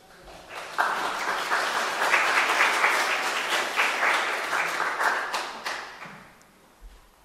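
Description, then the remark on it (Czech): A crowd applauds steadily for several seconds, a dense wash of many hands clapping that swells quickly, holds, then thins out and fades near the end. “Já se připojím k tomu potlesku, že k tomu poděkování”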